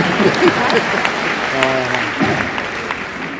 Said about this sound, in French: Allez, on fera des applaudissements.